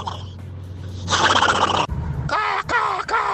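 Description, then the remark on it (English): A person imitates a crow, giving a harsh, raspy burst followed by a few strained, wavering caw-like cries in quick succession, loud and gravelly. “That's my crow impression.”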